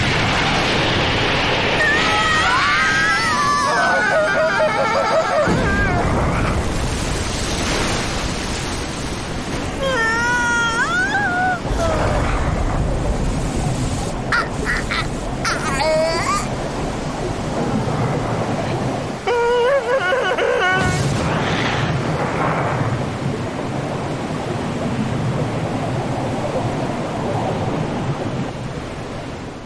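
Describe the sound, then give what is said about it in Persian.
A loud, continuous roar of a whirlwind storm fills the whole stretch, with deep rumbling gusts and rising, wavering howls whistling over the top, no voices heard. “چین گرده به بزرگی ندیده بودم.”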